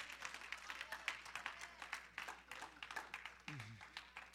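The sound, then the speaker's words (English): A crowd claps hands steadily and densely as a clap offering during worship, the overlapping sharp claps forming a continuous patter of moderate loudness, with a brief voiced exclamation rising out of it near the end. “Yeah, give a lot of clap offering.”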